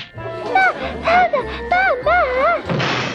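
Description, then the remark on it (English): A door is banged by the strong child Bam Bam with four or five heavy, evenly spaced thuds, while warbling, sliding high tones ride over the pounding, ending in a short burst of hissing noise. “Oh, dear, your door, Wilma.”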